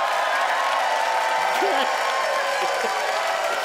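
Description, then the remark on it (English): An audience voting by applause for a contestant in a comedy debate, applauding steadily throughout, a dense, even wash of many hands clapping at constant loudness, with faint voices or a brief cheer rising now and then beneath it. “Ladies and gentlemen, it is your turn to vote by applause.”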